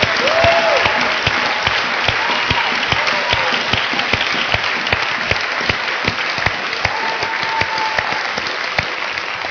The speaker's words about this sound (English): These guys are heroes in the church. Can we give them a great round of applause?